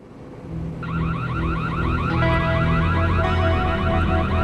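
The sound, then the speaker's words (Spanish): A loud electronic burglar alarm at Lincoln Hill Estates in Paradise Valley, Arizona, at 12:45 a.m., wails continuously with a rapid warbling siren tone, sustained, over a low steady hum, with no voices. “los guardias de seguridad de Lincoln Hill Estates en Paradise Valley, Arizona, oyen una alarma de robo y llaman a la policía.”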